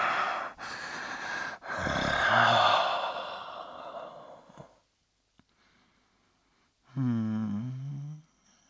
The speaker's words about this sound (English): Panting, anticipating.